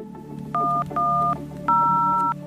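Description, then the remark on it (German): Three distinct telephone keypad tones beep in quick succession as the German police emergency number 110 is dialed, each a short steady dual-pitched note, with the last slightly louder. A low background hum runs underneath and no one speaks. “Gegen 16.30 Uhr ruft Roland K. die 110 an, doch bei der polizeilichen Notrufstelle geht niemand ans Telefon, obwohl er es eine gefühlte Ewigkeit klingeln lässt.”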